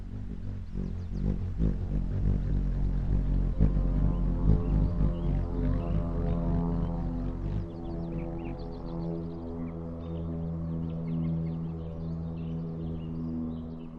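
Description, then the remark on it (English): An airplane flies over a park: a steady, loud low-pitched engine drone rumbles overhead, heaviest in the first half and then thinning out, while small bird chirps flicker faintly. “That's an airplane flying over the park, like one you might take when going on a trip.”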